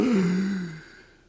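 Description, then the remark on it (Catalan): A single loud, breathy intake of air through the mouth during a 4-7-8 breathing exercise, with a voiced, slightly groaning edge that fades out over about a second. No talking. “Era pel nas, sí. No per la boca.”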